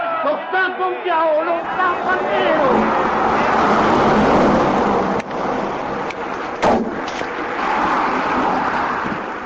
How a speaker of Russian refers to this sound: Чтобы расслышать его как можно яснее, мы начинаем прогулку ранним утром от вокзала Термини. Здесь вечная сутолока, многоязычная речь, стук колес и рев мотоциклов, чмоканье автобусных дверей.